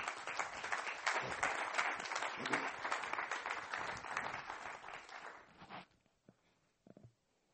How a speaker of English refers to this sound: So let's give him a round of applause.